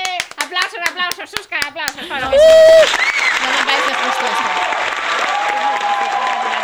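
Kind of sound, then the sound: crowd, applause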